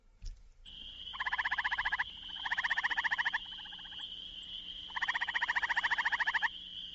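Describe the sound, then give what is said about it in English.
A gray tree frog, the largest of Ohio's tree frogs at 1 to 2 inches, gives three loud musical trills, each about a second long with rapid pulsing, over a steady high-pitched chorus of spring peepers in the background. “Well, let's listen to the gray tree frog.”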